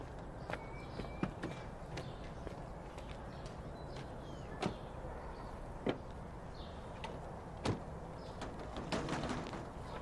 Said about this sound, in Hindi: क्या है, क्या बात है, दरवाजा क्यों इतना पीट रहे हो?